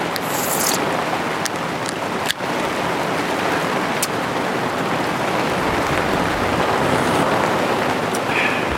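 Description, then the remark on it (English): Heavy rain pours steadily with gusting wind in a thunderstorm with lightning and thunder, a loud, dense, unbroken roar, broken once early on by a single sharp crack. No one speaks. “Cheers to the rain, to the lightning, to the thunder.”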